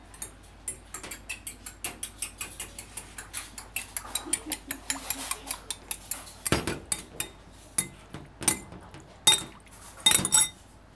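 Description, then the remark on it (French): Dishes and cutlery clink while hot chocolate is being prepared, in a steady run of light, bright ticks, some sharper metallic clanks and a ringing glassy chime toward the end, with no talking. “Amada nous prépare le chocolat.”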